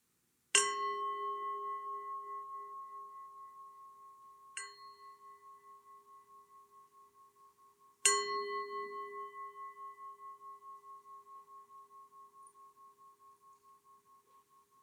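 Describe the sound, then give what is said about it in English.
A meditation bell is struck three times, with a softer middle strike; each clear, resonant tone rings out and decays slowly, sustaining long after the strike, alone with no voices. “Now I'm going to ring the bell.”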